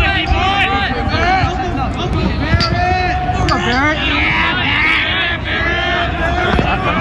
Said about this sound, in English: That is his team just cheering for him as he goes into the game. That was just kids him. Kids who just met him last week.